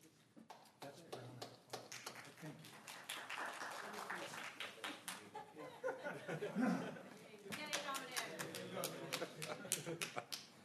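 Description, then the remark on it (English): An audience at a commission meeting claps irregularly throughout, a scattered patter of sharp hand claps that thins out and picks up again, with a low murmur of crowd chatter underneath. “I thought those claps were for me.”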